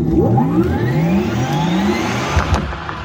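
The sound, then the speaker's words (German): A sports car engine revs hard and accelerates, its pitch sweeping steadily upward through the gears, loud with a throaty roar and no voices. “Ferrari steht ja seit jeher für rührende Motoren und pure PS-Macht.”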